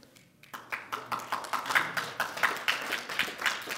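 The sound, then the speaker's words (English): An audience breaks into applause for a man coming up to lead a prayer, a dense patter of many hands clapping that starts abruptly after a brief quiet moment and holds steady at moderate loudness, with no voices heard. “You got applause.”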